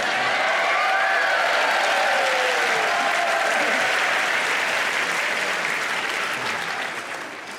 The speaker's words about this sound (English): Thank you. It really wasn't that long an applause.